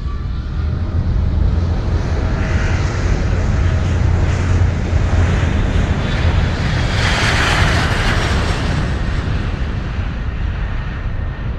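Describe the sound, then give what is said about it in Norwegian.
A loud, steady jet roar fills the whole recording, swelling to its peak about two-thirds of the way through as the plane passes overhead, then easing slightly. No one speaks. “Så får vi se da, når koronaen har gitt seg, hvor mange det er som fortsetter å zoome og skype og teamse, og hvor mange som flyr til himmels med ekte fly.”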